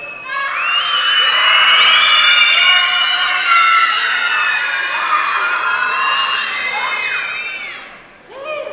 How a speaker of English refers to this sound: Kids, stand up and scream. Stand up and scream. Come on. Stand up and scream.